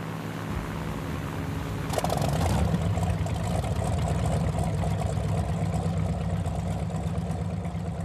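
A boat motor drones steadily throughout as the boat is steered toward thickets, a low rumbling hum that swells slightly louder and rougher about two seconds in, then keeps running evenly with no voices.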